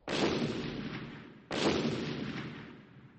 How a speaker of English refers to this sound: Then I heard an explosion. The company was excavating near the river. Every few minutes there was another explosion.